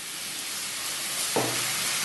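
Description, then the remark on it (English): Steady, bright sizzling from a frying pan of keema for keema pav, then a sudden louder burst of hissing as a splash of water hits the hot keema, crackling on without any voices. “And at this point, we're going to put in a splash of water to kind of get some of that flavor out.”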